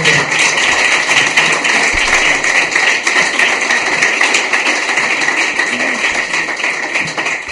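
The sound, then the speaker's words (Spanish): A crowd applauds steadily for several seconds, a dense, even wash of many hands clapping at once with no voices standing out. “Muy bien, un aplauso para la muda, por favor.”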